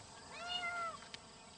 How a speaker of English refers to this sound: Is that a cat in there?